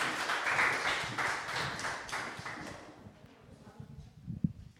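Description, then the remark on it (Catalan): An audience at the Institut Les Planes in Santa Bàrbara applauds the participants of a Canal 21 show in a dense wash of clapping that is strongest at the start, then thins out and fades, leaving a few scattered claps and murmurs at the end. “Un fort aplaudiment per a totes elles, per favor.”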